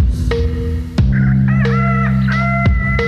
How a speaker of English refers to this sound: Is this a goddamn goose? Hey, Mr. Goosey, what's your name?